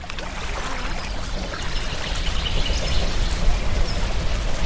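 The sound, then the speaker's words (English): Steady outdoor shoreline ambience on the island of Vartiasaari, southeast of Helsinki, in dappled sunshine: a continuous wash of moving water, birds and breeze in the trees, even in level, swelling slightly toward the end, with no voices present. “I'm here on the island of Vartiasaari, southeast of Helsinki, looking out over the water and listening to the birds and the breeze in the trees and in the dappled sunshine on the forest floor around us.”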